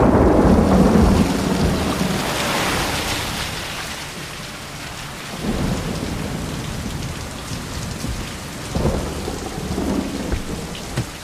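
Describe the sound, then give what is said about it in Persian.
Steady, heavy rain brought by a low-pressure front pours down, a dense hiss that never lets up, while deep rolls of thunder rumble underneath at the start and again midway. No one speaks. “همونطور که میبینید جبهه کمفشاری باعث باران حال حاضره، اما از شدت این جبهه داره کاسته میشه و توسط جبهه پرفشار جایگزین میشه.”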